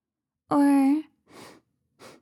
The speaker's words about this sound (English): I'll continue crawling around, maybe sniff some stuff like the carpet.